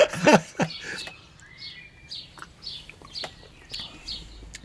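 A nightingale sings a series of short, high chirping phrases repeated at a steady, unhurried pace, opening with a louder, richer warbled note. No one speaks.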